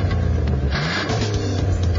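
A car engine revs up loudly, a steady low rumble rising in pitch over two seconds, with no voices present.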